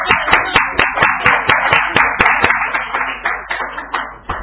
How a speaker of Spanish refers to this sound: Ya, le agradecemos a la doctora Borea. Un aplauso para la doctora Borea.